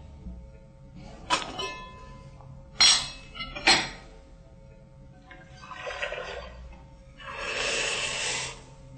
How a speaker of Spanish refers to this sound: Para empezar vamos a colocar inicialmente el arroz, la taza de arroz que les dije anteriormente, en 3 tazas de agua caliente.